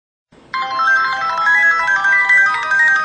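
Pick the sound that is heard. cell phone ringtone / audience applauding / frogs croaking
cell phone ringtone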